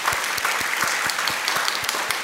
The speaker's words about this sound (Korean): 오늘 3부 예배는 이번 동해 선교에 동참하는 우리 타이베이 청년들이 지금 같이 예배를 드리고 있는데 한번 손 좀 흔들어 보시겠어요? 타이베이. 아, 예. 감사합니다. 다 알아들어요. 예. 박수로 한번. 예.